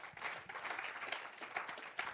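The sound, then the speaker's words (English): A church audience at a Seeing and Hearing campaign service claps for the Lord Jesus together in a dense, continuous burst of applause, steady and fairly loud throughout, with no voices standing out above it. “Clap for the Lord Jesus again.”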